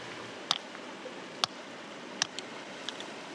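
A river stone resting on a flat rock is smashed with a rough chunk of limestone: three sharp clacks about a second apart, followed by a few lighter taps, over a faint hiss with no talking.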